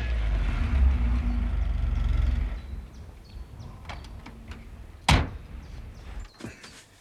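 A heavy tow truck engine rumbles loudly as it approaches, then cuts out; a few seconds later a sharp door slam rings out, followed by a fainter thunk. No one speaks.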